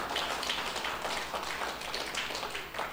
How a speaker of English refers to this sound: Thank you, team. Why don't we give the team a hand clap as they go.